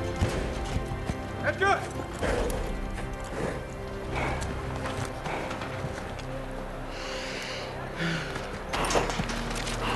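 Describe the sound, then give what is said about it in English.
Racehorse hooves gallop in a quick, repeated drumming of thuds, prominent over a dense background murmur with indistinct voices, from a movie's depiction of Secretariat running the Belmont in 1973. “And so in this movie, we're watching Secretariat, and in the last 6 minutes of this movie is the depiction of Secretariat running the Belmont in 1973.”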